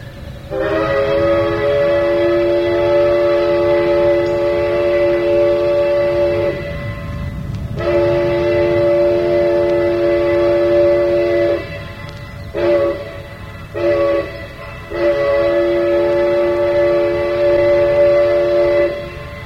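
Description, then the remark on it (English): The whistle of a steam towboat built in 1881 and based at Ashland, Kentucky sounds loud: two long, chord-like blasts, then two quick short toots, then another long blast, with a low rumble underneath and no talking. “The towboat Lucy Coles was no fashion plate. One smokestack, one propeller, a pilot house twice too big.”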